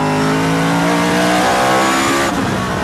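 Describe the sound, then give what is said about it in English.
A loud race car engine holds a steady high pitch, then its tone drops sharply near the end as it shifts back down into second gear for the corkscrew turn, with no voices present. “Then it's back into second, I think, for the corkscrew.”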